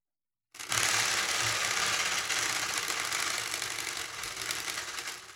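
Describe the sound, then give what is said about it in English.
A spinning bicycle wheel prize spinner, with a sprinkler head duct-taped to it that points to strips of paper, rattles with a fast, steady ratcheting clatter, loud and continuous, gradually easing as it slows over several seconds. No one speaks. “And of course, the ever-present sprinkler head duct taped to said bicycle wheel that points to one of the strips of paper,”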